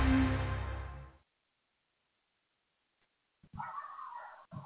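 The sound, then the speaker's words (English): A dog barks outside a window, a loud, drawn-out low bark at first, then a pause of about two seconds before a higher, sharper bark-whine. No one speaks. “Oh, who's barking? I think that's outside my window.”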